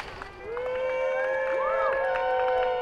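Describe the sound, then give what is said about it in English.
Families cheer and whoop together as a few detainees walk out, a sustained, loud wash of excited voices with high rising and falling shouts standing out, and scattered clapping mixed in. “Families cheer as a few detainees walk out”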